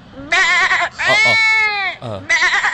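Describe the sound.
A person imitates a lamb using only the mouth, with three loud, quavering bleats. The middle one is the longest and swells in pitch before sliding down, and the last is short and shaky.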